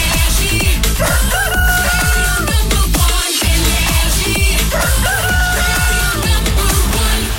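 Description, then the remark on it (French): A rooster crows loudly over a dense, booming music bed, its drawn-out calls repeating through a produced radio jingle opening the 6 a.m. show on the Énergie radio station, with a brief bass dropout midway. “Qu'on amène le coq.”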